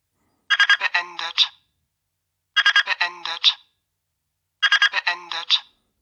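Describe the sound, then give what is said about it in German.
A cooking thermometer alarm, signalling that the preset temperature of 34 degrees has been reached, plays a bright, high electronic melody three times, each burst about a second long with short gaps of silence between, repeating in an even pattern. “Dieser Alarm geht eine halbe Minute.”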